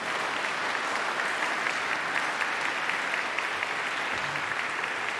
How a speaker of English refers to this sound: So if you're a mom, I want you to stand up right now. So let's give our moms a big round of applause, okay?